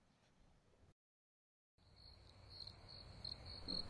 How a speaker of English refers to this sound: Are those crickets? I think those are crickets, right?